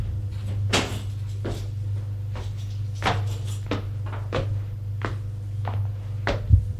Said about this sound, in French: Elle ferme la porte.